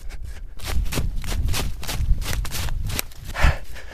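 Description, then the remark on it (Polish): Quick, steady running footsteps crunch on a forest floor as someone runs into a forest of the Karczma Borowa forest district, each stride a soft thud with rustle, keeping an even pace for several seconds with no voices. “Dziękuję panom za spotkanie, a ja teraz jeszcze tutaj nie kończę pobytu, bo właśnie zachęcony tym spotkaniem ruszam biegiem w las.”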